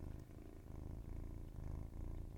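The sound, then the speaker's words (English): A kitten named Luigi purring steadily, a soft continuous low rumble with a gentle rhythmic pulse, quiet overall and with no talking. “Before I continue, I'd like to introduce Luigi, who is my new little kitten. Here are some purrs for your listening pleasure, some ASMR.”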